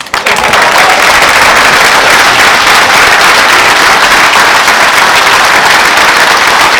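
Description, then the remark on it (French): A dense, steady burst of crowd applause, many hands clapping loudly at once for the whole stretch, with no voices standing out above it. “Et je pense que l'on peut faire un gros aura d'applaudissements parce qu'il le mérite beaucoup.”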